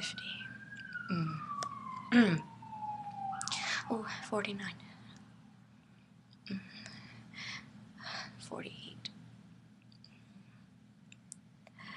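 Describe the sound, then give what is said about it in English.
An ambulance siren outside slides steadily downward over a few seconds as it passes, faint in the background, with breathy sounds and soft mouth clicks in the foreground. “there's an ambulance outside.”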